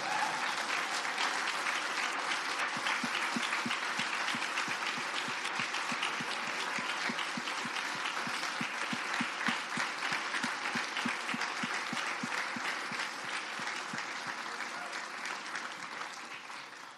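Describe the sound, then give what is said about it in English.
Sustained applause from an audience, a dense steady patter of many hands clapping at even loudness for the full span, tapering slightly at the end, with no one speaking over it. “All right, now you can clap.”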